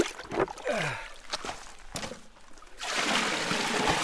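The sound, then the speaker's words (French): River water splashes and sloshes as it is scooped, then pours steadily into a large container to be used for flotation, with a continuous rushing hiss; no one speaks. “Donc voilà, je vais préparer le matériel et la première chose à faire, c'est de remplir le grand récipient qui va servir à faire la flottation.”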